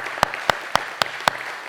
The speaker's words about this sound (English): Let's give yourself a hand clap.